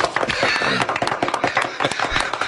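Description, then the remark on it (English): A voice mimics a dentist's drill working on a molar, made entirely with mouth sounds: a steady high whine mixed with sputtering, crackly bursts, held continuously at a fairly loud level for a couple of seconds. “Let me just drill on this molar a little.”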